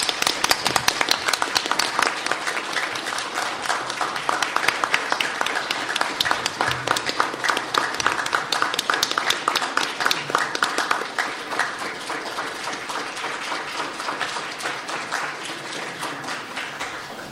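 Sustained applause from an audience for two women who stand to be honoured for their successes, a dense wash of many hands clapping at once, steady and fairly loud for the whole stretch before gradually thinning toward the end.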